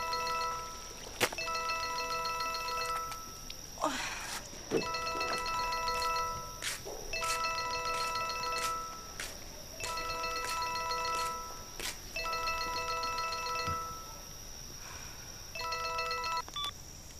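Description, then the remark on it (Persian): A telephone rings with a bright electronic trill, repeating in about five steady bursts separated by short pauses, loud, with no one speaking. “خب تلفن رو جواب بده دیگه، کش خودشو.”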